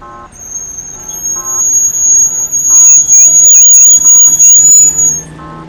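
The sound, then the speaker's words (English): Regularly repeating electronic beeps from an audible pedestrian walk signal at a major intersection in the streets of Beijing, then a warbling melodic chirp, all over a constant high whine and the steady rumble of street traffic. “This week, coming to you from the streets of Beijing, this is what an audible walk signal sounds like at a major intersection.”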